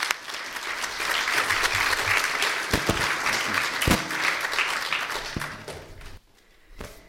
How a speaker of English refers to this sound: More applause, I think, is fine.